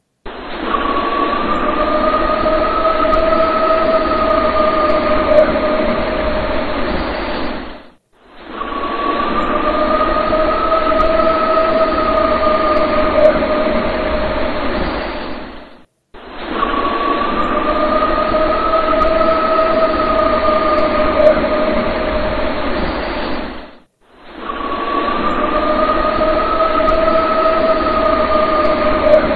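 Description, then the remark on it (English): A recording of a long, steady howl looped four times in a row, each run about eight seconds with brief gaps, holding a sustained two-toned pitch over a loud, rushing, rumbling background. No one speaks. “So we just listened to that howl. We had looped that a couple of times.”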